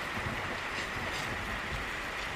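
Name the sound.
rain falling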